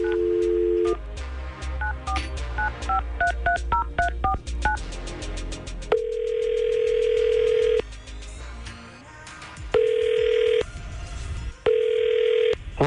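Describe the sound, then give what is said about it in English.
A phone call being placed: a quick run of dialing tones, then a steady ringback tone repeating in long bursts with pauses between, fairly loud and clear with no one talking. “we're going to see what's going on with Andrew and see if we can get him on the phone”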